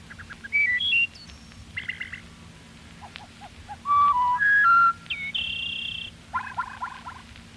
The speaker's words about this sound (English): Wood thrush.